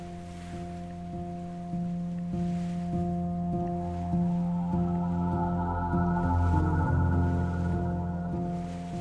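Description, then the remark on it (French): A Libyan coast guard motorboat's engine drones with a steady, deep hum that grows slightly louder and rougher as the boat approaches at high speed over the open sea, with faint wind and wash behind it. “Le bateau arrive à grande vitesse.”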